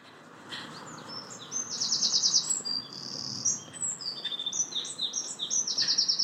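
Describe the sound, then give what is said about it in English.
A wren in London sings a fast, loud, high-pitched song of rapid trills and sharp chirps that runs almost continuously over a soft, steady background hum. “And if you heard that wren, got loads of wrens here.”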